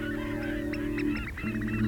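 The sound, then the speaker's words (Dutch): A dense chorus of honking geese-like bird calls from thousands of migrating birds stopping over on a small island in the Wadden Sea, many overlapping, continuous and fairly loud, with no voices. “Duizenden vogels trekken elk jaar naar het noorden en maken een tussenstop op het kleine eilandje in de Waddenzee.”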